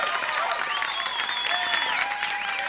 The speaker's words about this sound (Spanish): ¿Tenemos aplausos? Tenemos muchos aplausos.